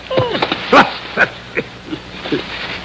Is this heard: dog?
yes